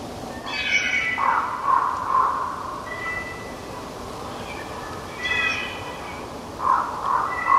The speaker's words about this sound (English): This sound here is wolves. The sound that's like the wind. That's two packs of wolves converging on each other. I call it whisper howling. It's the sound they make right before they begin to howl.